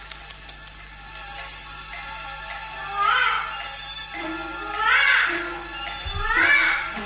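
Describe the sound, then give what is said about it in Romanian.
A baby cries in three short, whiny wails spaced a second or two apart, each rising and falling in pitch, over a faint steady background hum. “Auziți? Călugărul s-a reîncarnat în copil de țâță.”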